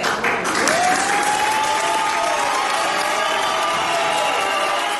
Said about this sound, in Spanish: Aplausos y también abucheos a la concejal de Compromís, que decidió el sábado apoyar al candidato popular José Luis Susmozas, ya alcalde de la localidad